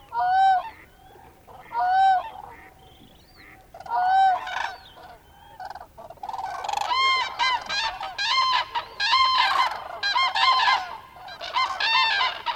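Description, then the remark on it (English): A flock of wintering birds at a small rain-formed pool in the wetlands of Cabañeros Park calls in winter with loud, nasal honks, at first in spaced bursts, then in a dense, overlapping chorus of repeated honking for the second half. “Cabañeros Park's wetlands, such as this small pool formed by the abundant rains that fell last fall, have been a refuge during the last 3 months for thousands of wintering birds which arrived with the first frost.”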